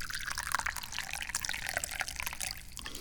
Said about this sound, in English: Yeah, and we all know what that means. That means it's time to pour some yummy tea.